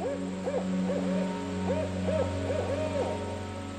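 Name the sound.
barred owl hooting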